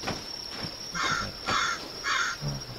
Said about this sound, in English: Corvo, bene.